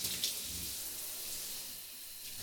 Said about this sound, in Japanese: 泡が残らないようにしっかり流していきますよ。